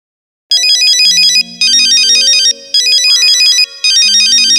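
A phone ringtone for an incoming call plays loudly in repeated bursts of rapid trilling electronic tones, separated by short pauses, over a sustained melodic backing, with no voices present.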